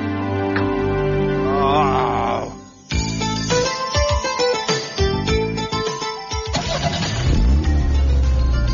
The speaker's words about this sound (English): The car that starts up is the one for me.